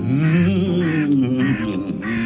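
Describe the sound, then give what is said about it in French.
Harsh, drawn-out crow caws ring out loud, a few raspy calls running together over about two seconds with no talking. “Comment on s'intéresse quand même aux corbeaux, ça ?”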